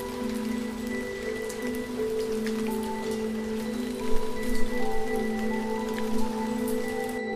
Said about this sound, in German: Es ist eine dieser Nächte, in denen das Land stillzustehen scheint. Die Straßen leer, nur das gleichmäßige Prasseln des Regens auf dem Asphalt und das Gefühl, dass irgendwo da draußen jemand ist, der nicht gefunden werden will.